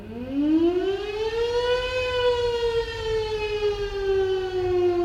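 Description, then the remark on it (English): A civil defense air raid siren wails steadily in wartime Ukraine, its tone rising over the first two seconds and then holding a long, sustained pitch. Loud and continuous, with no voices. “I mean, now I'm used to these sounds. You just know what you need to do. You just need to hide underground.”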